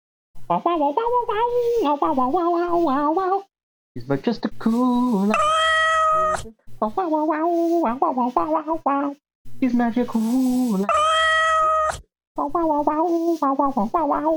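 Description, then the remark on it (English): An upbeat sung theme song about a cat, with bright, harmonic vocal lines, broken up by loud, high, drawn-out cat meows around the middle and again later, all full-volume. “And theme song time. Here we go, Buzz of the Wizard.”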